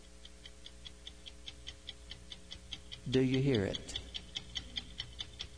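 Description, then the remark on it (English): A clock ticks steadily and evenly all the way through, crisp, with a brief spoken question breaking in near the end while the ticking carries on beneath it. “That's the death clock that is ticking.”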